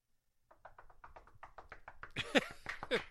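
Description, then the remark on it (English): A quick, steady run of about a dozen knocks on an oak plywood board, each a short hollow rap. Louder voices break in over the last knocks near the end. “How many times can you knock on wood in an hour-long show?”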